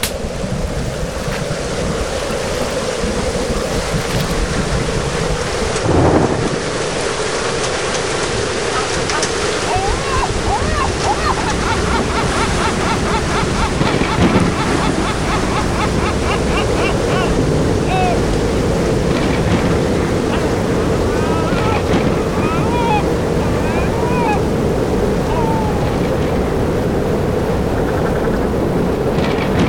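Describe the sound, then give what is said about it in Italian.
Loud, continuous roar of a rough sea with wind and crashing waves, steady throughout with occasional surges and faint higher cries scattered above the churning noise. “Nella tempesta, nella tempesta, nella tempesta.”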